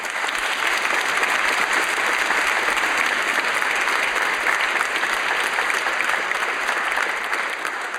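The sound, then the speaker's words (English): A concert audience applauds the London Community Foundation and the London Arts Council steadily for about eight seconds, a dense, even wash of many hands clapping at constant loudness, easing off slightly at the very end, with no voices. “Can we have a round of applause for them, please?”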